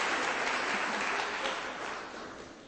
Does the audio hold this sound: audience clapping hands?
yes